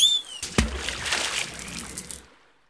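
A sudden heavy splash as a man jumps into water, a deep thump followed by about two seconds of churning, sloshing water that fades out. A brief high tone sounds just before.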